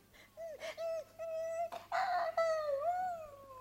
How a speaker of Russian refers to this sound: Терпеть не могу, когда ты скулишь, как щенок.